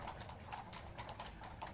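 Horse hooves clip-clop steadily on cobblestones at lunchtime, a quick regular rhythm of sharp knocks repeating several times across the short stretch, clear with a low rumble beneath.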